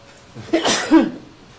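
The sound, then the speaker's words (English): A single sneeze in two quick parts: a sharp breathy intake, then a louder, noisy burst that fades within about half a second. No one speaks during it. “Bless you.”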